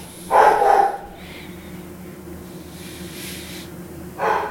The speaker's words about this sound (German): Whisky bellt gerade mit einem anderen Hund, weil ein Hund angefangen hat zu bellen und dann ist jetzt Bellen angesagt. Whisky! Whisky!